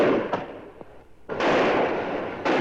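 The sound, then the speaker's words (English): A tractor engine backfires in a series of loud, sharp bangs that sound like gunshots, each followed by a rumbling roar, with no voices. “I can almost hear those guns. That's my tractor.”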